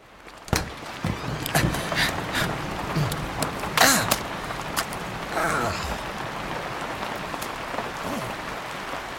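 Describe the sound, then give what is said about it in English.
Steady rain hisses and patters throughout in New Mexico, with sharp drips and splashes standing out at irregular moments against the continuous wash of falling water. “Why is it always raining here?”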